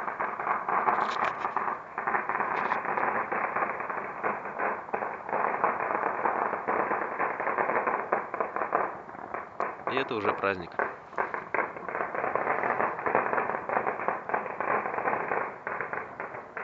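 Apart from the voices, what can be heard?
firecrackers exploding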